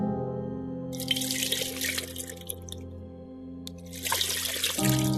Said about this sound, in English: So if we want to pour the water on our hands, we want it to cover all the way from our wrist all the way to the very ends of the fingertips. And you pour it twice.